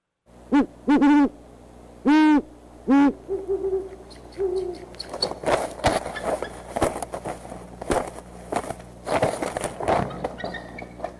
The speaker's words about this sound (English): Well, you heard the male owl in the nest hooting, and then off in the background, a lower voice, that was the female responding. And then you heard the eagle kind of scream and chitter. The eagle flew into the nest.